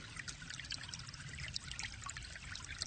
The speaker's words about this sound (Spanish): Imagínate que en la habitación empieza a brotar agua templada. Primero te va cubriendo los pies y los tobillos.